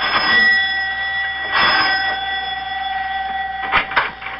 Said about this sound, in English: Mac presses the doorbell at his house